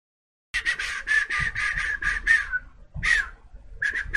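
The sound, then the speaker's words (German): A streamer deliberately whistles loudly into his microphone, piercing, harsh and distorted, in a rapid run of short shrill bursts, a brief pause, then a few more blasts. “Und dann pfeift er mit Absicht laut ins Mikrofon,”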